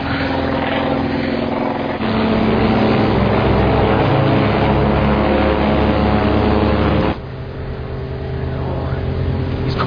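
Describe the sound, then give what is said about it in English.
A propeller plane coming around to attack, its engine droning loudly and steadily, a thick harmonic buzz that surges slightly partway through, then drops back before building again. No voices. “He's coming around. He's attacking.”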